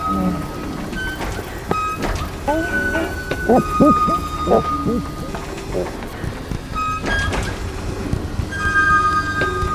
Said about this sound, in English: The Morse code, drip of raindrops, tiny light bulbs falling like shimmering insects, glowworms, rusty rain